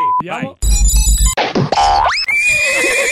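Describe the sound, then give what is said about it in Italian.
A loud, close horse whinny rings out amid a quick burst of cartoonish sound effects, including a springy boing and rising, warbling tones. “Ma perché il cavallo?”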